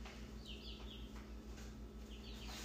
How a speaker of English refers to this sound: Long pause. Chicken intermission. Chicken intermission.